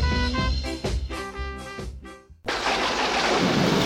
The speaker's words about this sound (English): Oh no, look, it's just started raining.